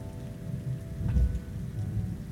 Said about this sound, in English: Rain's rain. It wets your clothes and soaks your hair. Nothing more, nothing less.